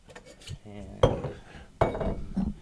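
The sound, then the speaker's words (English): Two sharp clinks of chilled hand-blown Pilsner glasses and a chilled metal cocktail shaker tin ring out about a second apart as a cocktail is mixed, each trailing off briefly, with a faint murmur of voices in the background. “So he's got the two chilled Pilsner glasses and the chilled, what is that, a metal That's mixing cup?”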